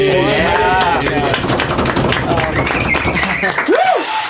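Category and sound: crowd, people clapping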